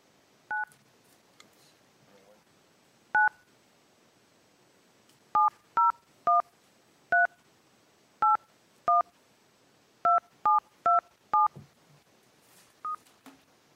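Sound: touch-tone telephone dialing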